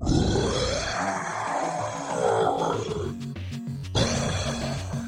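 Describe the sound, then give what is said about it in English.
A loud monster roar from a guard creature rumbles and growls continuously for about five seconds, deep and guttural with rising snarls and a brief harsh break near the end, with no voices around it. “If there was anyone in the 5-mile radius, they would have heard the guards roar.”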